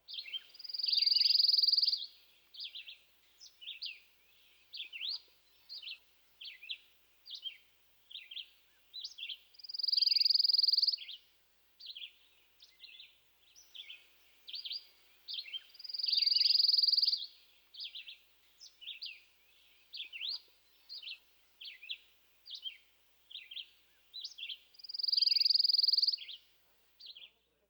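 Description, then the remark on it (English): A pine warbler sings a soft, lazy trill, repeated four times at unhurried intervals of several seconds, with a steady scatter of short, high chirps and twitters from other birds filling the gaps. “Many pine warblers sing a less musical trill. The song might better be compared to the chippy, but it has a soft, lazy quality.”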